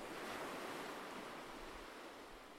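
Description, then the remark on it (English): Steady washing of water waves, a broad continuous hiss of surf that swells slightly early on then eases, with no voices over it. “Take one more step for me. One more step in wonderful water.”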